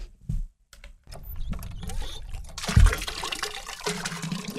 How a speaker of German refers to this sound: Ohne sichtbare Anstrengung pumpt er mit der rechten Hand Wasser in einen Eimer.